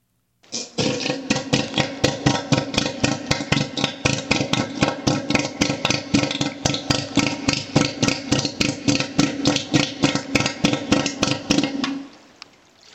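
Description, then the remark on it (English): Elephant seal call: a loud, steady train of rapid guttural pulses with a low droning tone, like a sputtering motor, running unbroken for about eleven seconds before stopping abruptly. “In case you don't know what elephant seals sound like, here's a little clip.”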